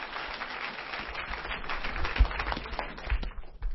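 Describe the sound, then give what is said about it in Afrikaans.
An audience claps hands in praise steadily for a few seconds, a dense patter of many hands at moderate loudness with a couple of sharper accents near the end, with no voices over it. “Prys, kom ons vir hand klap.”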